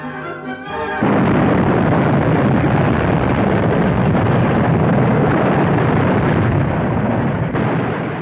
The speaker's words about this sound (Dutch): Nu en dan wordt er een gat geboord voor een springlading. Wie met zijn voeten handig is, hoeft er niet eens bij te bukken. Wat dynamiet zorgt dan voor een kleine ontploffing.